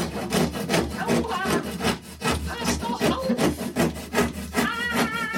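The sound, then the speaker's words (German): A hand saw rasps steadily through wood in quick, repeated back-and-forth strokes, fairly loud, with no voices over it. “Ein Beispiel wäre die zersägte Jungfrau und das klingt dann so.”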